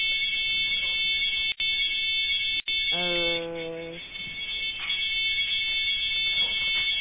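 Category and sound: signal or alarm, alarm going off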